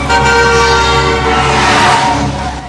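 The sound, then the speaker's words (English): A car horn blares continuously over loud traffic noise, a sustained blast layered with engine rumble, as a car skids to avoid hitting a Jaguar that slewed into its lane and stops across two lanes, with oncoming cars braking. “A car skids to avoid hitting him and stops across two lanes.”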